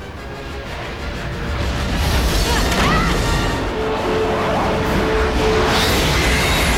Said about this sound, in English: Explosive white beams of light shoot from Glendathu, surrounding them. One explodes against the cockpit windscreen, shattering the glass with a burst of flame.